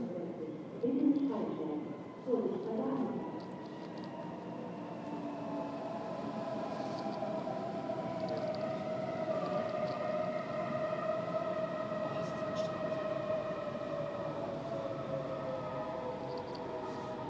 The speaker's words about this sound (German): Das ist jetzt eine kurze Bahnhofsatmo von Kölnmesse Deutz.